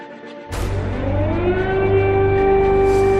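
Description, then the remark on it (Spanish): An air raid siren in Kyiv, Ukraine, warning of bombings, winds up from a low pitch into a steady, loud wail that holds its tone, with a deep rumbling hum underneath and no voices. “Este es el sonido que se ha oído en las últimas horas en la capital de Ucrania, en Kiev. La sirena avisando de bombardeos.”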